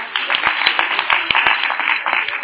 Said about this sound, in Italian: Applauso.